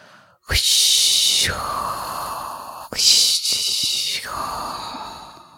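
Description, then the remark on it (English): A voice imitates crashing ocean waves with two long, breathy whooshing exhalations, each a hissy rush that swells and then fades into a lower rasp, with a sharp catch of breath between them. “Do the wave sound?”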